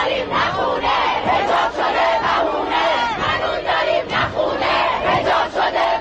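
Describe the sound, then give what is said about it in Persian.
A large crowd of protesters in the streets of Iran in 1401 shouts and chants against the government in a dense, continuous roar, voices rising and surging in rhythmic waves without pause for six seconds. “شهرهای ایران ملتهب بود، مردم ایران بغض فرو خوردهشون رو فریاد می‌زدند.”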